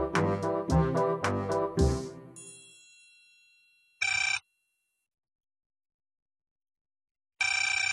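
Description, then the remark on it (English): A bright chiming jingle fades out, followed by two short, loud telephone ring bursts spaced a few seconds apart with silence between them. No one speaks. “I'll pick up the phone.”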